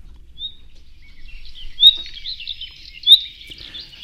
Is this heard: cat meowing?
no